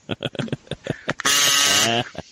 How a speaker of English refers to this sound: This has been a record number of guest kazoos